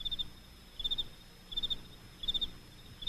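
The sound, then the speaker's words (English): A Chinese cricket, kept as a good-luck charm, chirps in short trilled bursts, each a quick cluster of high pulses, repeating steadily about once every three-quarters of a second over a faint low background hum. “It's Lucky Louie singing your bad luck away. Sounds like a cricket.”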